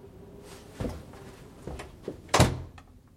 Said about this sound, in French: J'ai refermé la porte dans un geste sec.